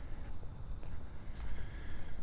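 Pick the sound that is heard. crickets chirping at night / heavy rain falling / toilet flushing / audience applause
crickets chirping at night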